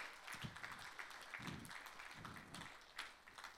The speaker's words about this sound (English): Let's all give them a round of applause, everyone.